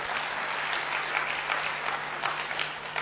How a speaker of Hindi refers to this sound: भाई तालियां तो बजाइए।